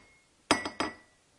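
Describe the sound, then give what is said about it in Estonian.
Two bright glass clinks from a small glass flower ornament, close together, a sharp tap followed by a second ringing strike, with a faint sustained glassy tone lingering around them amid quiet. “Kilikoll, see on klaasist.”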